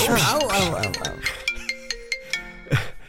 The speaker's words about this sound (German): Handy klingelt.